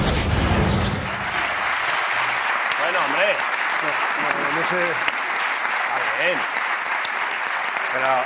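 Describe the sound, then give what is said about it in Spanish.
A crowd claps steadily and loudly throughout, a dense wash of applause with voices calling out and cheering over it. “No sé qué estáis aplaudiendo, porque...”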